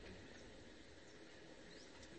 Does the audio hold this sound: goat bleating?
no